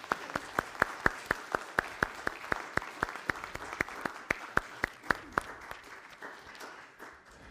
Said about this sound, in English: And while we might not clap for choir performances, we can clap here for these folks that have joined.